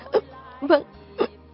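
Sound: crying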